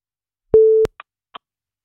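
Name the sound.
telephone ringing tone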